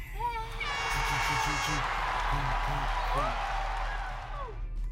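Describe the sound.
Steady applause from an audience fills the full five seconds, a dense wash of clapping with scattered cheers and voices mixed in, holding at an even, loud level before easing slightly at the end.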